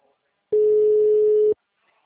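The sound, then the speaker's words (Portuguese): A single steady telephone ringback tone sounds for about one second, a flat electronic hum at one pitch, clear and alone, followed by quiet as the call goes unanswered. “gente, a pessoa não atende o telefone.”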